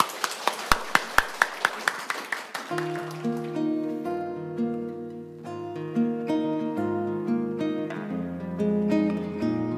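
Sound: audience applause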